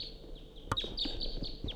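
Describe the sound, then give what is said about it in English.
Several sharp, high chip-like calls from wild Type 2 crossbills, repeated in quick irregular succession over a steady background hiss, with one louder click-like note partway through. “Quite a few wild crossbills coming around.”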